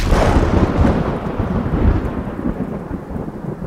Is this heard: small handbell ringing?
no